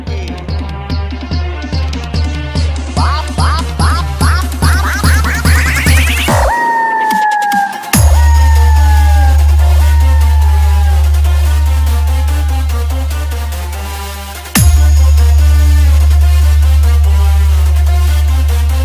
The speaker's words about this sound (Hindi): बेटा तुम डीजे नहीं कुड़कुड़िया बजा रहे हो और इतना घटिया बजा रहे हो कि जैसे मच्छर भगा रहे हो।